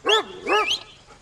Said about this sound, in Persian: سگه. بدش من پسر. سگ بد.